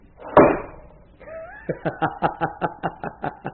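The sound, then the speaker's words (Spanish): A heavy metal vault door is pushed shut by two men with one loud, booming clang. After a short gap, a voice breaks into a rapid run of rhythmic, snickering laughter. “Empujaron con fuerza la enorme puerta y...”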